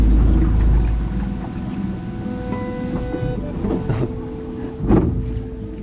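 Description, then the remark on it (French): A boat engine drones steadily, with a deep low rumble and a shifting mechanical whine as the boat manoeuvres through a small branching waterway among palms and vines, about five minutes into the trip, plus a few sharper knocks and splashes near the end. No one speaks. “Là, on a fait 5 minutes de bateau en gros.”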